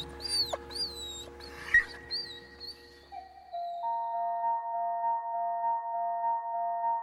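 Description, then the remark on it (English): A dog whimpers and cries in a few high, wavering whines over about three seconds, close and fairly soft, before a steady, pulsing tonal sound takes over. “While no animals were physically harmed in the recording of this radio feature, it is possible that Jack suffered some psychological trauma as a result of being made to cry.”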